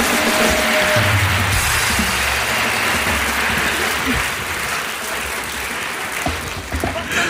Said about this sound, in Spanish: No quiero decir más, solo un aplauso para la Policía Nacional de Perú.